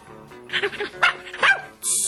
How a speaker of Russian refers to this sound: Хозяин отправился в дом, а доктор перелез через забор и начал отвязывать щенка. Щенок радостно завизжал и бросился лизать доктору руки.